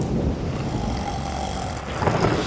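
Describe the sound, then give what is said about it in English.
A deep, steady rumble of thunder from a thunderstorm rolls on without a break, with a gritty low roar that swells slightly louder near the end. No voices are heard. “Steve, it's a thunderstorm. You know, thunder and lightning.”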